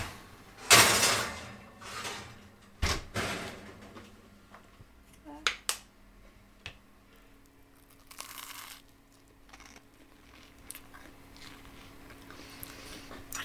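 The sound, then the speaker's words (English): Author Bernardine Evaristo knocks on the front door of a house: a few sharp knocks, spaced irregularly, followed by quieter rattles and shuffling against a faint background hum. “I cannot believe Bernardine Evaristo is about to knock on my door.”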